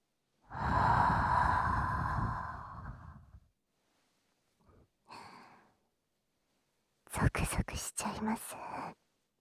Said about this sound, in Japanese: こんなに近くから声がする。吐息が直接耳に。